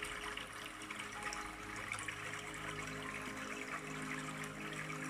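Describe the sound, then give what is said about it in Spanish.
Water falls and trickles steadily onto the floor, a soft continuous splashing wash with no pauses and no voices, fairly quiet and even throughout. “Y toda esa agua cae al suelo.”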